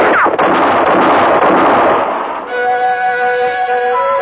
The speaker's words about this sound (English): For about 5 seconds, the moonlit clearing thundered to the sound of gunfire. And then it was all over.